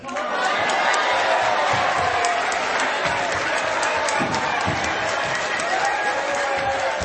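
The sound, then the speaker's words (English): A crowd cheers and shouts steadily throughout a race, a dense, loud wash of voices with scattered claps and a few thumping footfalls underneath. “What a great crowd you were.”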